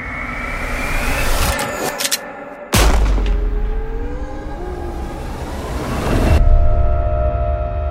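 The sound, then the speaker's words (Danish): A few sharp gunshot cracks ring out at uneven intervals over a steady rumble of traffic or engine noise, each blast loud, with no one speaking; masked men fire at a Hells Angels prospect in front of a café on Pusher Street, and a female tourist is hit. “Foran Stjerneskibet bliver en kvindelig turist ramt af skud, da de maskerede mænd forsøger at skyde mod prøvemedlemmet.”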